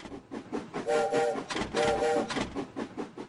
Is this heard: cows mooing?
no